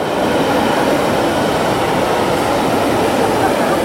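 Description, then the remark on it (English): A train rolls along the railway line that runs through the city of Ljubljana, with a steady, loud rumble and roar that holds constant for the whole few seconds, with no voices. “Much like the train line that runs through the city and the promenade that links it to Tivoli Park and the headquarters of the Graphic Arts Institute.”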